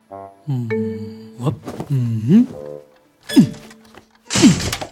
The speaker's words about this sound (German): Vorsichtig geht Lieselotte auf das Gästebett zu. Es ist ein Klappbett und quietscht bedenklich, als Lieselotte sich darauf legen will.